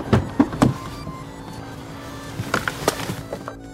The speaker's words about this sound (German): Ich steige jetzt ins Auto und fahre los.